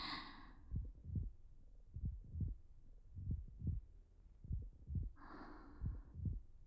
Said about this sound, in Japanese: でも、もしこうやって密着して鼓動を伝え合うのがあの人とだったら、少し緊張するかもしれないけど、きっとすごく幸せかも。